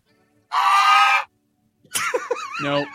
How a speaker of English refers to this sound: And I looked for bird screeches.